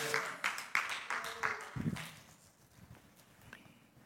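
sparse audience clapping

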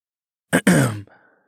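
throat clearing

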